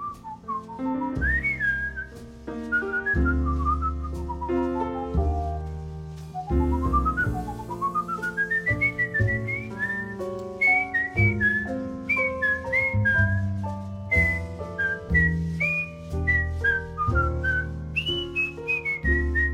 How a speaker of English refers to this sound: So is that you on the record, …? Is that you whistling?